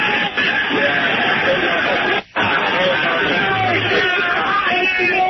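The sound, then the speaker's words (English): A huge crowd outside, in front of Carnegie, makes a loud, dense roar that fills the whole clip. Overlapping voices and shouts blend into a steady wash of sound, with one brief dip partway through. “The crowd is loud. There's a huge crowd down there.”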